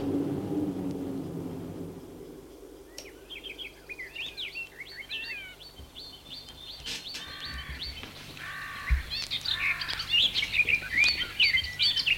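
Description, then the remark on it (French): Several birds sing and chirp in the morning in quick, overlapping phrases, bright, over a soft low background hum, with the chorus growing busier toward the end. “Il se réveille le lendemain matin à cause des chants des oiseaux.”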